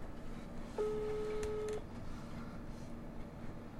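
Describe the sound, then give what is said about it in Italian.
A phone line ringing out on a call placed to a hospital in Foligno: one steady, mid-pitched ring tone lasting about a second, followed by faint hiss with no answer and no voices. “Il telefono squilla e non risponde.”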